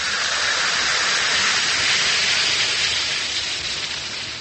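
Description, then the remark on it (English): Alka-Seltzer tablets fizz steadily in a glass as they dissolve into liquid, a dense, bright crackling hiss that holds for several seconds before easing slightly at the end, with no voices. “Yes, it's action in the glass, changing Alka-Seltzer tablets into the liquid form your system can use easily.”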